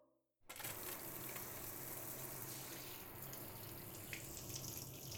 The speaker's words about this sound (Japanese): 体は洗えたし、泡流しちゃうね。